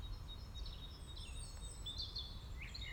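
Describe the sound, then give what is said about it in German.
Several birds chirp and warble in a quiet forest, their calls overlapping over a low, steady outdoor rumble as a light wind rises, with no one speaking. “Ich lade dich ein, zuzuhören, was der Wald, was die Vögel dir zu sagen haben, und genieße.”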